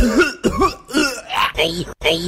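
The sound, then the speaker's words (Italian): A voice puts on a burst of theatrical, exaggerated coughing, five or six loud, hacking coughs in quick succession with throaty, voiced strain. “Tossiscia più non posso con Costanzo Tosse e dimostra al tuo datore di lavoro di essere veramente malato.”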